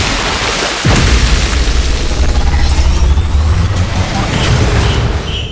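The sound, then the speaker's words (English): A heavy cannonball jump into a pool: one loud thumping splash hits about a second in, followed by several seconds of steady churning, rushing water noise. “Cannonball!”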